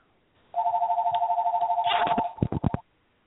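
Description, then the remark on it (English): A steady, unbroken telephone dial tone hums for about two seconds, then a quick run of four or five keypad beeps cuts in as a number is dialed live on air for a three-way call to a caller's sister, before everything stops. “That's my dial tone thing.”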